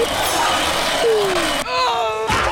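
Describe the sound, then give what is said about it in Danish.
Loud retro audio game effects: a noisy rumble with a falling tone, then an abrupt buzzy, harmonic downward sweep as the player is crushed after failing to get clear of a hole. No one speaks. “Jo, der skete faktisk det, at jeg ikke kunne komme helt væk fra det der hul. Så derfor så, blev jeg knust lidt.”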